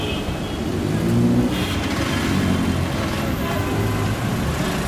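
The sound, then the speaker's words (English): Busy street traffic in Dhaka, Bangladesh rumbles continuously while a car engine revs, its pitch rising and falling against the steady roar of passing vehicles. “And if you listen to the sounds going on around us, you'll get a clue as to what today's programme is about.”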